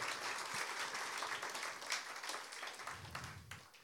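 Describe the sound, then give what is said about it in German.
A crowd of children applauds the brave sock-wearers who hung their socks on the speaker's arms. A dense, steady wash of many hands claps at once and holds for several seconds before tapering slightly, with a faint voice murmuring underneath near the end. “Ihr, ein Applaus für die mutigen Sockenträger.”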